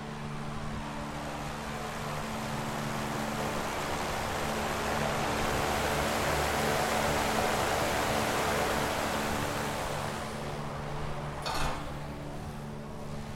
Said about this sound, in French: Si, c'est une ventile pour la cheminée, en fait. Hein. Ça, c'est le souffle qui vient de la cheminée, attends, je pense. On va l'écouter.